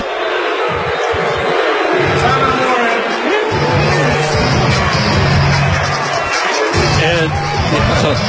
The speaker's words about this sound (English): And Indiana fans would want it. And crowd really getting angry now.